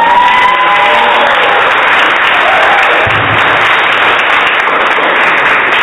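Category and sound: crowd, audience clapping and cheering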